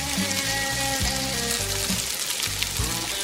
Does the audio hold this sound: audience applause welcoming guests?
no